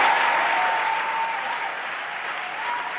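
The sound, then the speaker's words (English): Loud, dense applause from a large crowd, a steady roar of clapping that fills the whole three seconds and holds nearly constant volume, with a faint tonal whine running underneath. “Cue the applause.”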